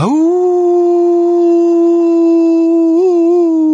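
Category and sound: animal, dog howling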